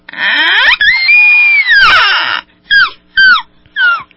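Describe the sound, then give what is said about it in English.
A young woman imitates an elk bugle: a long, high, squealing whistle that rises and bends, followed by three short, sharp yelping chirps. Loud and shrill, with no talking. “She could do an elk, too. An elk bugle.”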